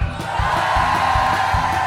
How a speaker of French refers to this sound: Allez, c'est parti. Je veux vous entendre gueuler les stagiaires, vous êtes là?